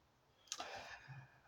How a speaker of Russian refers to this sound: Достает коммуникатор, там открывает, что-то печатает быстро.